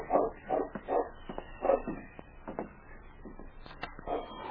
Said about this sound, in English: As his hand reached for the lamp, he hesitated and listened. He was sure he had heard a dog bark. There's a dog.